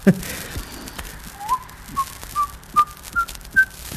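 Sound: person whistling a tune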